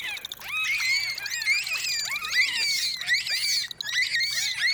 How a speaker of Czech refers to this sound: Celú uštipačnú diskusiu delfínov skákavých o farbe vašich plaviek si môžete vypočuť na svojej exotickej dovolenke.